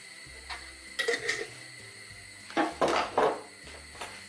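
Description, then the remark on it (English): Chopped bell pepper, mushrooms and Spam tumble into a frying pan with a bit of oil to be fried, in a few clattering bursts, two short drops followed by a longer scrape and rustle, over a low steady hum, with no talking. “And then I'm going in with bell pepper mushrooms and Spam. And then we're just going to fry them, as I said, until your Spam gets nice and crispy.”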